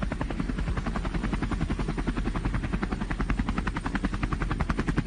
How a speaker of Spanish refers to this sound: Esta es la pista donde aterriza el helicóptero con el paciente.